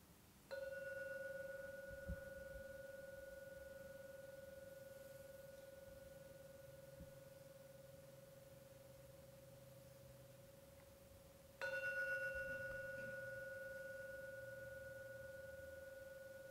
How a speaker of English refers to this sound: I will now ring the gong. When the third ringing of the gong vanishes, come out from your meditation.